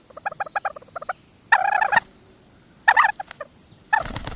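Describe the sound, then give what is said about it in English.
A white-tailed ptarmigan calls, first with a quick run of soft clucking notes, then three loud, harsh, cackling bursts separated by short pauses, with no talking. “Venture high enough in the western mountains, above tree level into the alpine zone, and you'll find talus slopes interspersed with bits of low tundra, home to one of the continent's most reclusive birds, the white-tailed ptarmigan.”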